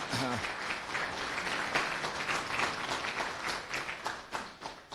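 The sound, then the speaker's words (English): An audience at a Dev Room event applauds steadily for about five seconds, a dense wash of many hands clapping at a fairly even level, with a brief voice at the very start and the clapping thinning slightly toward the end. “Round of applause, yes.”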